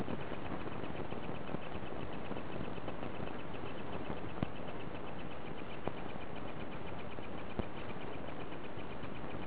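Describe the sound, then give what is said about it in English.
Electronic clicks and faint beeps from a device called Professor Camera on the side porch of the Richmond Hill Law Library: a rapid, steady ticking with a few sharper clicks spaced seconds apart, all over a constant hiss with no talking. “The beeps and clicks you're hearing are coming from Professor Camera.”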